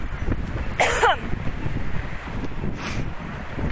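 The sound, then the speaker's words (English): Strong wind buffets the microphone on a windy spring day at Queen and Victoria by St. Mike's, in a constant low rumble with gusty surges and a couple of brief brighter rustles, loud throughout with no talking. “You can't really have fun on it today because it's freaking windy. And that includes the microphone.”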